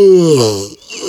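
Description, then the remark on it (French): A voice imitates a big yawn, voicing the storybook bear Lapinours yawning and stretching as he wakes at dawn: a loud, drawn-out vocal sigh that slides downward in pitch, fades, then ends in a soft breathy exhale. “Il bâilla à pleine bouche et s'étira de tout son long pour se réveiller.”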